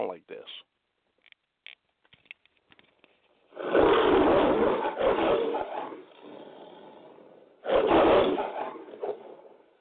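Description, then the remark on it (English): A man's voice imitates a roaring lion: two loud, gravelly, drawn-out roars, the first longer and trailing into a rumbling growl, preceded by a few faint clicks and breaths. “See, he's going to go to the book of Proverbs and he says, the righteous are as bold as the lion.”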